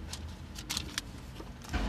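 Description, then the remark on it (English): A garbage truck rumbles past, its low engine drone steady throughout, with a few short hissing bursts and clanks cutting through. No one speaks. “Oh, that wasn't me. That was a garbage truck.”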